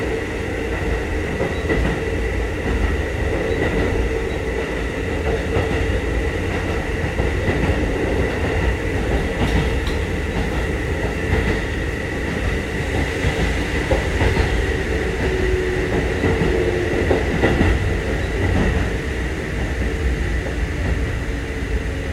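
A train rumbles steadily along the tracks between stations, with the next stop being Ido. It makes a continuous low roar with faint rhythmic clatter and a thin metallic whine rising midway, with no voices.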